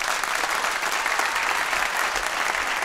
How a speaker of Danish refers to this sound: Prøv lige at... alle dem, der synes, at Søren Østergaard, han skal have Søren Grendel-prisen, er ikke søde at klappe.